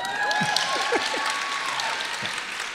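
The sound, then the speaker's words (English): An audience applauds steadily throughout as a show-of-applause vote on whether they love celebrity feuds, a dense wash of many hands clapping at a constant level, with a few scattered whoops and cheers rising over it. “By applause, how many, when a big celebrity feud pops up, how many of you are all in, you eat it up with a big old spoon,”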